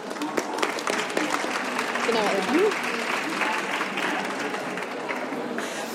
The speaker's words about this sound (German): Vielen Dank für Ihren Applaus und ich freue mich unendlich über den Community-Preis, denn ich finde, zu mir und zu meinen Lesern, von denen auch ein paar hier sind, passt der wunderbar.